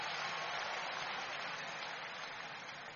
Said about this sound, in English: Give the Lord a big clap of hand.